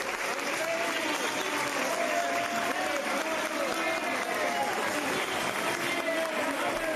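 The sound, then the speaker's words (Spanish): A crowd gives a sustained ovation in tribute to Rayo Vallecano legend Félix Bardera Felines at the presentation of his biography at Colegio Raimundo Lulio in Vallecas, steady dense applause filling the whole stretch at an even level, with scattered voices shouting and cheering within the clapping. “Me gustaría que escucharais la ovación a una leyenda del Rayo Vallecano.”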